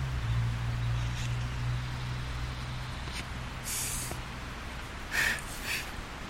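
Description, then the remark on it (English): A low, steady car engine rumble hums in the background, strongest in the first few seconds, with a couple of brief airy hissing bursts on top and no talking. “There's the rumble of the engine in the background.”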